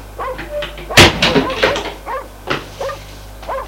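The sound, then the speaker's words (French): A door to an upstairs room in a house is opened with one loud bang, followed by a series of short, squeaky creaking tones at a steady, uneven pace over a low background hum. “Il ouvre une porte, entrez.”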